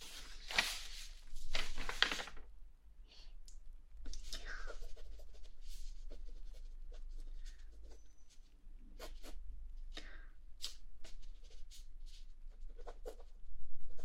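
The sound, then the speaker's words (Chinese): Scratching of a pen writing a handwritten draft on paper, in irregular bursts of quick strokes and taps, busiest at the start, over a faint low background hum. “手写稿方便啊，因为我喜欢写字，没关系，到时候手机识别一下就上去了。”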